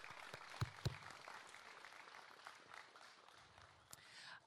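An audience applauds in a steady, dense patter of clapping that holds for several seconds, with a couple of sharper, louder claps standing out early on.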